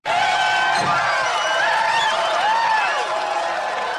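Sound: audience cheering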